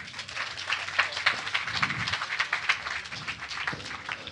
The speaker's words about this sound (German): Applaus für ihn bitte.